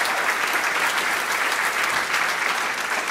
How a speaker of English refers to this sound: Let's have these 3 stand. These are the Doctor of Ministry folks in our campus. Stand, and let's give them a round of applause.